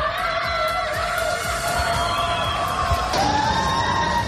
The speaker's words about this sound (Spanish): Pero esto no ha impedido que el gobierno haya decretado un estricto confinamiento que lleva en Shanghái vigente más de 3 semanas. Y esto está provocando situaciones de pánico, con los vecinos gritando a través de sus ventanas y balcones.